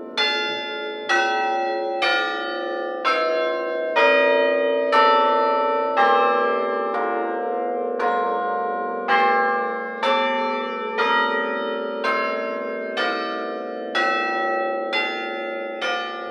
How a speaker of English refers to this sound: We have 8 bells in our tower, what would be called an octave. It's an F major scale.